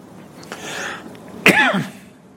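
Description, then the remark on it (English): A hoarse throat clearing followed by a louder, raspy cough with a voiced, gravelly tail, both brief and isolated against a quiet background, with no talking. “Honey, do you have a cough drop?”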